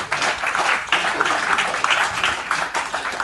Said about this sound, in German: Ich kann aber euren Applaus noch nicht hören. Ein bisschen mehr geht dann noch, denke ich.